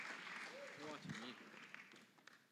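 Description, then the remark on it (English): Steady audience applause, a dense wash of many hands clapping at once with voices mixed in, fairly soft overall with a few sharper claps near the end. “Can we give them a hand?”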